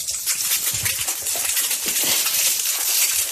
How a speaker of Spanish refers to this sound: Así es como suena cuando se está friendo un huevo.